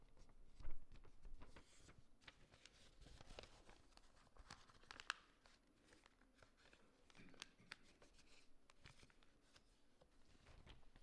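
Paper being folded: soft crinkles, creases and small crisp rustles come in irregular bursts, with a sharper snap or two, all fairly quiet and with no talking.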